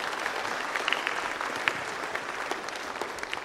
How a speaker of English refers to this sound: Let's give them another applause. Thank you so much.